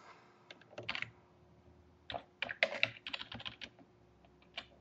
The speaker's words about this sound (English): Just typing a little email to Peter Watt.